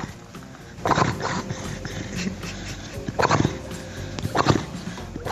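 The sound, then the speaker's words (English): A beagle named BB, also called Beagle Brendan, snores up close, three raspy, nasal snorts arriving at a slow, steady pace over a low continuous rumble of breathing, with no voices present. “First, listener Coco's Beagle BB, a.k.a. Beagle Brendan, snoring.”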